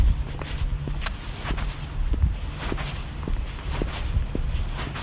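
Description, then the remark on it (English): Steady footsteps cross a street and walk up the driveway of a suburban home at an even pace, each step a crisp, gritty crunch against a low background rumble, about ten steps over a few seconds with no talking. “I cross the street, walk up the driveway.”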